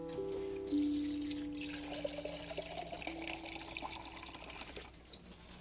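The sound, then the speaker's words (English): Water pours steadily into a container for several seconds, a continuous splashing gush whose hollow tone rises in pitch as the vessel fills. No one speaks. “Need some water out there.”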